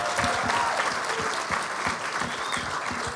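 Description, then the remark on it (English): An audience at a morning church service applauds the mothers present, a dense wash of many hands clapping at a constant, fairly loud level throughout, with no speech over it. “Let's applaud all the moms in the house today.”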